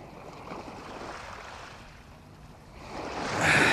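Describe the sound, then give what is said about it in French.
Gentle waves wash against a shore in a sheltered cove in the evening, a steady hiss of water that ebbs slightly, then swells louder and brighter near the end. No voices. “le soir de la grève où Jean et Anne se promènent, ils peuvent voir le grand bateau se balancer dans la crique”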